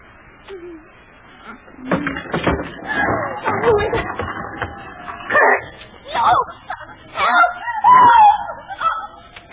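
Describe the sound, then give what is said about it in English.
A woman screams in a series of loud, shrill, wavering cries, rising and breaking over several seconds, with rough background noise beneath and no clear talk. “What made you scream”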